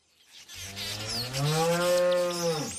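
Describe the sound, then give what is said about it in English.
A Jersey cow on a dairy farm lets out one long, loud moo, starting low, swelling in the middle and tapering off after about two seconds, with no one talking. “She doesn't give her Jersey cows any growth stimulants or antibiotics and never sprays her land with pesticides.”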